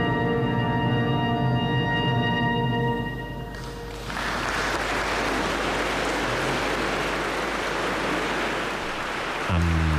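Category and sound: crowd, audience applause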